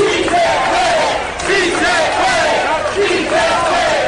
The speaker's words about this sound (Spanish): Algunos de ellos, con lágrimas en los ojos, realizaron esta protesta en medio de gritos de apoyo.